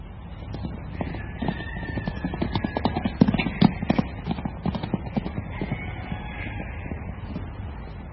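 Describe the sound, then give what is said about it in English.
Hooves of wild horses in Kaapsehoop clip-clop steadily, a busy run of sharp knocks that grows louder near the middle, with a faint, thin high call drifting in the background. “The thing about Kaapsehoop, apart from the rocks that people say have magic qualities, are the wild horses.”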